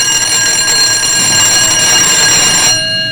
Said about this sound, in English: Thus, another spring day at North High begins with a bang. As we enter the classroom, the first period tardy bell rings.